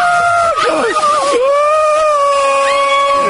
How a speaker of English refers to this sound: That was actually somebody winning the snowflake contest. Well, that was you. Are you serious? You can hear her screaming.